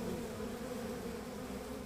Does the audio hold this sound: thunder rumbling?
no